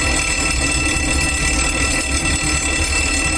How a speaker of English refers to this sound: Oh, we have a fire drill. Everybody line up in a neat, orderly row and run like hell for the exits.